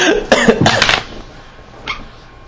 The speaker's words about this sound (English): You see the dogs. They're barking loudly. He's a hellhound.